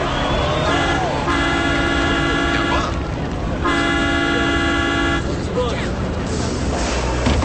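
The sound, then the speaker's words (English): A bus pulls up and stops amid loud street noise, sounding two long, steady horn blasts a second apart, with indistinct voices mixed into the busy background, as football team players get off the bus. “A bus stops and the bald player from Bobby's old team steps out.”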